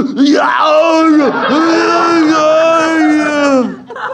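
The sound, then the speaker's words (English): A man's voice imitates the classic Arnold action-hero scream, a loud, drawn-out bellowing wail that rises, dips and rises again for about four seconds, alone. “He'd be perfect if just to hear the classic Arnold scream as they're driving the nails into his hands.”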